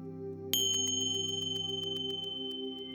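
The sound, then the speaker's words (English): A single meditation bell is struck and rings on during a guided meditation exercise, its bright metallic overtones holding steady with a gentle pulsing waver as the tone slowly sustains over a low, continuous hum. “So just gently close your eyes and listen to the sound of the bell.”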